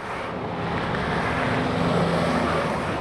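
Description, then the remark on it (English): Heavy trucks carrying fruits and vegetables roar past on California's Highway 99 through Modesto, a loud, steady wash of engine and tire noise swelling slightly as they go by, with no voices. “The trucks that race by on California's Highway 99 are carrying fruits and vegetables through Chandra Levy's hometown of Modesto.”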